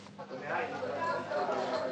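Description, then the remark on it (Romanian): A crowd shouts in the street, a dense, continuous roar of many overlapping voices with no single speaker standing out, steady and fairly loud throughout. “Ce se aude? Ce se petrece în stradă? De ce strigă mulțimea?”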